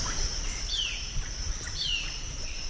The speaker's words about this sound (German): Auf dem Pausenhof der deutschen Schule von Guayaquil findet man seit einiger Zeit fast nur noch Vögel und Leguane. Schüler haben das Gelände schon seit 8 Monaten nicht mehr betreten.